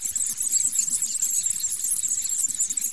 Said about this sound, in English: 10 mice a squeaking.